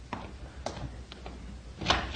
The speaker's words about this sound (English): Okay, don't you believe the knocking?